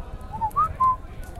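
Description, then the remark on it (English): Three short, muffled whistled notes, rising and falling slightly, come from inside an egg in quick succession over a low, steady rumble, whistled back in reply to a whistled "I love you". They are soft, and no one speaks. “whistles his words”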